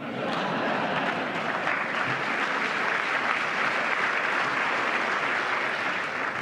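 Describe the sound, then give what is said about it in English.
Sustained applause honoring Ryan, which Donald Trump said broke a record, a dense steady roar of many hands clapping at an even, loud level throughout, with no voices standing out. “Now, the record that he broke, apparently, was he got, according to Donald Trump, a large applause.”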